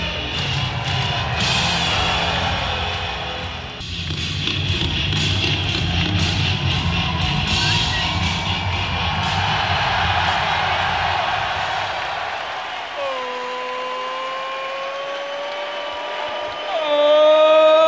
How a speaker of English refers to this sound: We're going to keep getting interrupted by music and listen to this crowd.